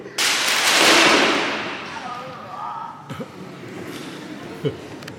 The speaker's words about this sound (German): Goliath wankte und schwankte und mit einem lauten Rums fiel er zu Boden